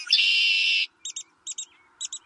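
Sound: red-winged blackbird call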